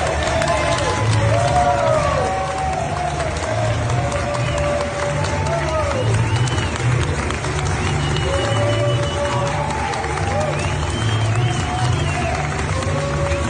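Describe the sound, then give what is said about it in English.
A crowd at a Biden-Harris rally makes a steady, dense roar of overlapping voices and babble, with occasional raised shouts rising above it. The noise stays loud and constant, with no pauses or quiet moments. “And of course, if you think the public's not waking up, look at just how many people showed up for a Biden-Harris rally.”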